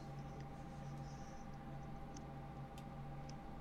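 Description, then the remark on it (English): Faint, high-pitched rat squeaks come in a few brief chirps over a steady low electrical hum, with no talking. “Rats are always a bad sign.”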